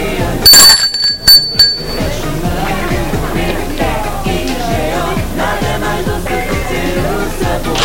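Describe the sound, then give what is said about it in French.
A doorbell at a double door on a landing rings in a short burst of bright, metallic chimes near the start, loud over a steady backdrop of busy music with a pulsing low beat that carries on after it. “Attends un moment. Sonne encore une fois.”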